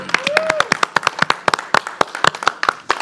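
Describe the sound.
A crowd applauds with dense, irregular claps in quick succession, steady and fairly loud throughout, with a few brief voices and a whistle-like tone mixed in. The applause honours the Ontario Police Department and campus safety staff at an evening OMSD event.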